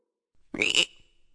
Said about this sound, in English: Gently, she picked up the little green frog and placed it in the jar. Ribbit! It said as she screwed on the lid.